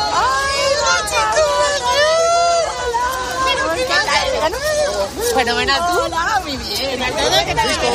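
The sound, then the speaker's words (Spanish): A lively crowd of children's and parents' voices at a school door in the morning, reuniting happily, chatters and calls out all at once, a dense, steady hubbub with high excited shouts rising above the mix, loud throughout. “Y es que esta mañana en la puerta de este colegio todo eran reencuentros felices.”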